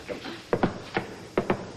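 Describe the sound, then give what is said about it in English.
A patterned secret knock on a door, used as a secret greeting ritual: two quick raps, a pause and a single rap, then two more quick raps. Sharp and fairly loud, with no voices. “The secret knock.”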